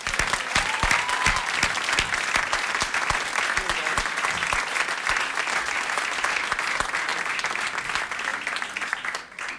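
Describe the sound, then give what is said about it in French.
An audience applauds a singer opening the first edition of the L'Oiseau Rare talent contest, steadily: a dense wash of many hands clapping with sharp individual claps standing out, sustained loudly for nearly ten seconds before easing slightly at the end. “Alors on va lui souhaiter bonne chance, tout simplement en applaudissant un maximum.”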